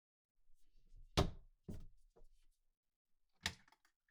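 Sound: refrigerator door opening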